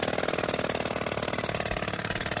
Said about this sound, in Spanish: Es un martillo neumático de esos que taladran las calles cuando hay obras y uno de los ruidos más molestos que podemos encontrarnos.